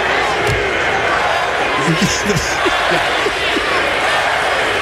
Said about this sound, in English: Everywhere we go, they cheer for him. Not everywhere they cheer the MVP, though. Oh. Yeah, wow. They were chanting MVP, mocking him.